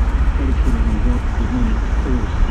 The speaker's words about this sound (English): So you can hear this truck behind us. It's just noise.